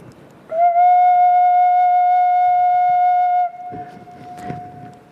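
An organ flue pipe is blown, sounding one steady, fairly high tone that holds loud for about three seconds, then cuts off, leaving a faint lingering ring and some rustling handling noise.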